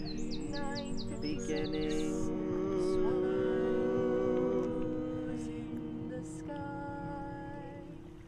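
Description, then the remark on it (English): Birds chirp and trill outdoors in a busy overlapping chorus, with quick repeated high notes standing out over a steady low background hum. “So of course on site here there's a number of birds, that's like a very obvious one, but you'll hear other things too.”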